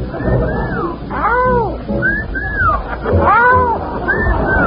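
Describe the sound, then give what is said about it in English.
A brand-new combination whistle with a real wolf call: a series of rising-and-falling whistle tones blended with howling wolf calls, repeating about five times in quick succession, loud over a low background murmur. “It's a combination whistle with a real wolf call.”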